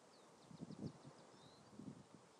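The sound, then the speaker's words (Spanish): Faint birdsong outdoors, recorded on an iPhone by a pond with the sea further off: a quick series of high, thin chirps, then a short trill, over a soft rustle of wind and leaves. “Hola, no sé lo que recogerá la grabación del iPhone, pero lo que yo estoy escuchando son los pájaros, un estanque que hay un poco más abajo, donde yo estoy, y después más al fondo el mar.”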